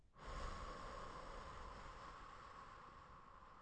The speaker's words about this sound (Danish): Og vi ånder ind en gang til. Hold vejret et lille øjeblik. Og ånd langsomt ud.